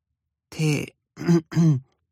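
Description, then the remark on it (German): A man clears his throat three times: one longer rasping rumble followed by two shorter, quick bursts, with no speech around them. “räusperte sich.”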